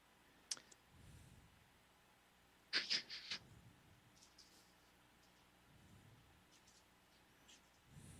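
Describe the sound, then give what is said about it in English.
A soft sharp click, then a short flurry of crisp, scratchy rustles of clothes being shifted, over faint low background rumble, with no one speaking. “Sound of clothes rustling? Ah, yes.”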